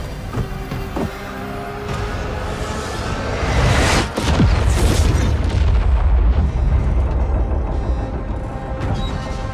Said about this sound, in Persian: موج انفجار تموم شد.